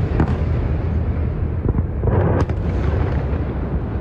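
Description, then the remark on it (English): Deep, heavy explosions in the Gaza Strip, from an Israeli military attack on an underground site used to manufacture rockets, boom one after another over a continuous low rumble, with sharp cracks standing out near the middle. The blasts sound echoing, as if rolling across open streets, with no voices. “Several explosions have rocked the Gaza Strip.”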